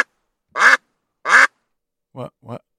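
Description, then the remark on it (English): A duck quacking sound effect played on the Halford and Brough Show on Sportsnet 650: four quacks with gaps between them, two loud, raspy ones, then two shorter, lower-pitched quacks close together, with no other sound around them. “What was that? We have to duck out.”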